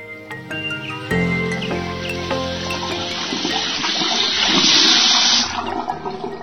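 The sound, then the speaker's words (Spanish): A loud, steady rush of water from an open tap starts abruptly, swells over several seconds, then cuts off, with soft musical tones playing underneath. “Cierra la llave del caño mientras te cepilles los dientes.”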